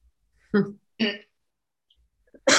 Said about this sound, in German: Ja, ich kann so schlecht reden, darum bin ich auch gar nicht ganz ruhig. Ich huste Bälle vor mich hin.